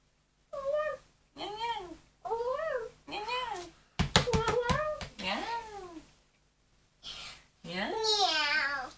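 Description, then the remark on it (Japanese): A small child pretending to be a cat drinking milk repeatedly imitates a cat's meow, with about six drawn-out, rising-and-falling calls in steady succession, fairly loud, plus a brief burst of sharp tapping partway through. “おいしかったらにゃーんって言ってください。”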